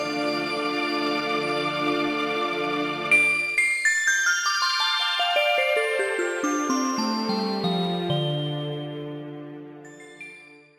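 Bright bell tones ring out: a sustained shimmering chord, then a quick descending run of struck chimes that overlap and slowly fade, with no voices.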